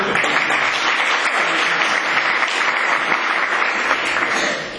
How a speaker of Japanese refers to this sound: 皆さんで、エールの拍手をお願いいたします。